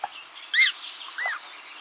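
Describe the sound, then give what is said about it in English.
An American coot chick and its parent calling on the water: two short, nasal calls about half a second apart, the first louder and harsher, the second a rising-falling note, over a steady high hiss. “Let's move from forest to water to hear an American coot chick and its parent.”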